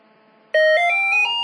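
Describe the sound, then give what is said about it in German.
A normal landline telephone, called from an Alto device, starts ringing after a short quiet pause, a loud electronic ring with bright tonal notes that step along in a quick melodic pattern. “Jetzt läutet das normale Festnetztelefon.”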